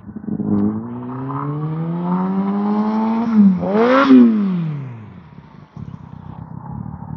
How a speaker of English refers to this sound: A lot of motorcycles out this morning. I don't know, is there some kind of motorcycle meet going on, or no, this guy lives here, he's got his rice burner. I recognize the bike.